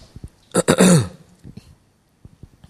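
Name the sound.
coughing and throat clearing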